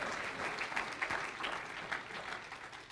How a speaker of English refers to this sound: but I don't care if you're sitting by your wife, you got to clap your hands anyway. It's the truth.